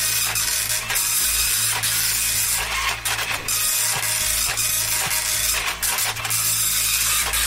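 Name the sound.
printer printing a page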